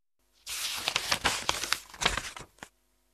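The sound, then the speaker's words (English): Pages of the picture book The Fox and the Crow being flipped and rustled back to the beginning for about two seconds, a busy run of crisp crinkling and swishing bursts with a few sharper flicks, no voices. “Let's read the book again. Turn to the beginning.”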